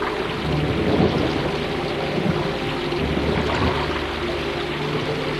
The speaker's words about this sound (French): Et l'eau évaporée retombe en pluie.